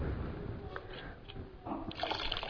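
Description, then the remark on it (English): Liquid is poured back into a container for a couple of seconds, a steady, continuous trickling and splashing with a rising, filling quality toward the end. “Now, can you pour that back in there?”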